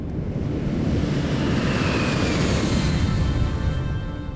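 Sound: airplane engines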